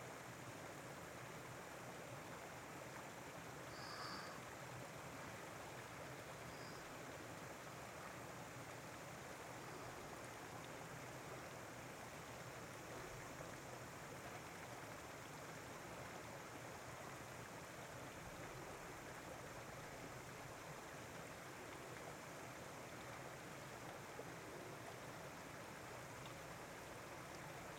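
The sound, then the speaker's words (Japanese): Steady rushing water flows without pause down a waterway between rice terraces, a dense, even hiss like a stream, with no voices and no breaks in the sound. “流れの音、川の音みたい。”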